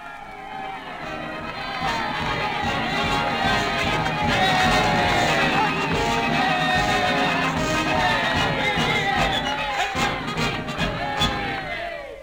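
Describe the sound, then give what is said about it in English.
A large crowd cheers and shouts continuously for about twelve seconds, loud, many voices overlapping, with a band playing beneath the roar, in front of a big new building. “standing up in front of a big new building, the crowd cheering, the bands playing.”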